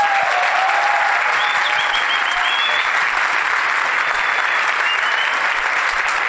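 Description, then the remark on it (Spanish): Steady, dense applause from an audience welcoming a speaker, loud and continuous for several seconds with a faint whistle or two rising above the clapping. “Así que yo los voy a dejar, creo que él tiene algo para explicar hoy, les pido que lo reciban con un aplauso y se los dejo.”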